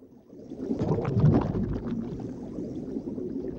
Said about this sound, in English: The divers' bodies float beneath the surface, suspended in the water. Bubbles from the regulators in their mouths rise to the surface.